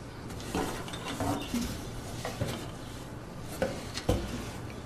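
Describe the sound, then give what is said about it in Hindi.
Metal kitchen utensils and containers clatter and clink in irregular bursts as someone rummages through boxes searching for a tea kettle, with a few sharper knocks toward the end and no voices. “तुम्हें याद है चाय की केतली मैंने किस डब्बे में रखी थी? ढूंढ रही हूं, मिल ही नहीं रही।”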